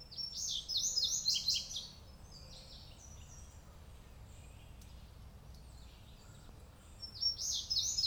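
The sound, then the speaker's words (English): Thin, high-pitched wheezy calls from five blue-gray gnatcatchers, a family group with young just out of the nest moving among small trees and big rocks, clustered in two bursts at the start and end with scattered softer notes between, over a low outdoor rumble. “But five gnatcatchers moving among small trees and big rocks tells me it's a family group, young, just out of the nest.”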